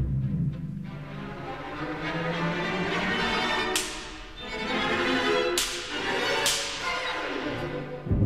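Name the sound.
orchestral whip (slapstick) cracks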